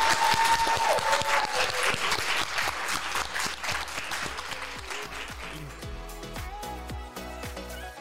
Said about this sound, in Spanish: ¡Aplauso a la doctora! Gracias.